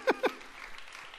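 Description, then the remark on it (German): Audience applause: two sharp, loud claps stand out at the start, then a faint, scattered patter of clapping carries on briefly. No one speaks. “Das war sozusagen dieser Applaus schon mal vorab.”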